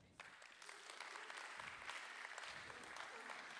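An audience bursts into applause for two girl volunteers, a dense, steady clatter of many hands clapping that holds at a fairly even level for several seconds, with no voices standing out.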